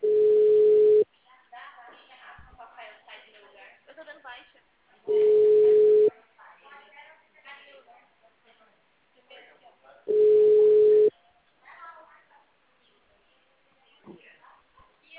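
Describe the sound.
A telephone line tone sounds three times, each a steady, low, one-second beep repeating about every five seconds, with muffled, thin phone-quality voices chattering faintly in the gaps.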